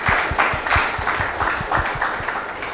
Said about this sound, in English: Well, let us give Greg another round of applause.